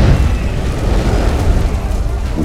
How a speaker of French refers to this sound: l'explosion crée une énorme huge boule de fireball. Feu. Et il y a de multiples explosions à quelques minutes d'intervalle.